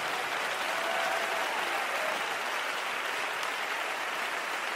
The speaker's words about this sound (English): In the name of the Lord Jesus Christ of Nazareth, in Jesus' name, can you clap your hands unto the Lord? And if you're excited, why don't you clap those hands a little bit louder?